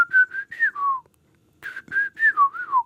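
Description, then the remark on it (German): A person whistles two short phrases imitating the droning whistle that often ends a bird's two-part song, each a few sliding, wavering notes that fall in pitch at the end, separated by a brief pause. “Und zum Schluss kommt oft so ein leierndes Pfeifen, wie...”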